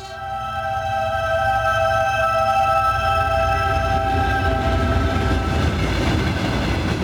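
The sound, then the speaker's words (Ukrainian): A train from Khmelnytskyi rumbles steadily along the rails, taking a detour instead of its usual line to Ternopil, with a sustained low roar and high metallic squealing tones drawn out above it, continuous and loud throughout. “З Хмельницького поїзд не поїхав звичною колією на Тернопіль, бо там, як я вже знав, люди сіли на рейки, а завернув на об'їзд.”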